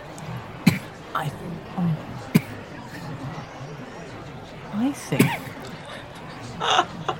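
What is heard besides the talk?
coughing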